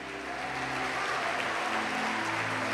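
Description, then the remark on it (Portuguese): An audience applauds the Lord in worship, a dense wash of many hands clapping at an even, sustained level, with a low hum of instruments or organ underneath and no speech. “Oh Deus, nós te adoramos, aplauda ao Senhor.”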